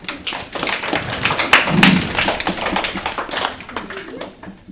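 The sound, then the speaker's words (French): Many children clapping for the CE2 class during a school quiz game, a dense patter of many small hands beating quickly and unevenly for several seconds, steady before easing off at the end. “On peut les applaudir.”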